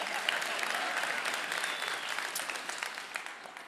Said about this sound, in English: And yeah, you can applaud that there. That's a man.